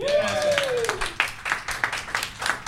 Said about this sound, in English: Is Angelo the bolus? Yes, clap for yes. There we go.